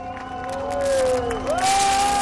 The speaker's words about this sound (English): And before we go, the Olympic torch has arrived in France. The flame travelled in style as it sailed into the port town of Marseille on a 19th century ship. It arrived to the claps and cheers of sports fans ready to welcome the iconic Olympic flame.